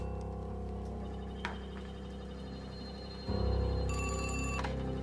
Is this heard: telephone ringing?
yes